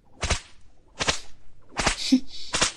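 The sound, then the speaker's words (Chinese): Four sharp whip cracks striking a person land at a steady, unhurried pace, each loud, with a brief airy swish cutting through the air between the last two strikes. “所以你要记住，现在打在你身上的每一鞭子都是姐姐对你满满的爱，知道了吗？”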